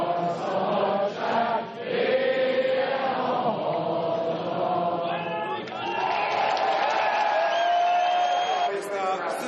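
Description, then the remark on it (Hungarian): A large crowd sings the Hungarian national anthem together after a speech by Viktor Orbán, in sustained, droning voices, a steady mass of overlapping tones with a slow, solemn melodic line rising in places, loud and continuous throughout. “A tömeg ezután elénekelte a himnuszt, majd a Kossuth nótát is.”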